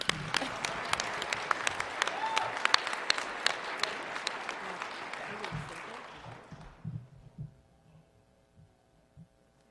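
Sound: round of applause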